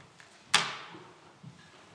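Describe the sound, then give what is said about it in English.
A single sharp clack of a bottom drawer being pushed shut, fairly loud, with a brief ringing decay, then a faint soft bump against a quiet background. “I forgot to get them there in the bottom drawer back there.”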